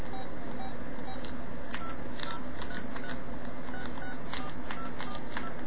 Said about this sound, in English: Okay, phone number entry. Let me enter that in.